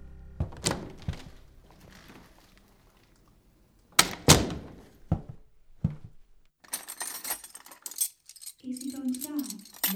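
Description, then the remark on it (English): Heavy furniture, a velvet chaise longue, being shoved against a door and a table turned over: a series of loud thuds and knocks, then a long rough scraping drag with a low groaning tone near the end. “Get the chaise longue up against the door. Lawrence, turn over that table.”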